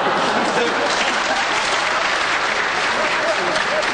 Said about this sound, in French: Cette constatation applaudie, comme vous l'entendez, que je vous demande de prendre la parole.